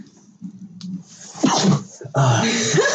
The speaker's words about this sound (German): Gesundheit. Es gibt ein russisches Sprichwort, wenn man niest, dann hat jemand davor die Wahrheit gesagt.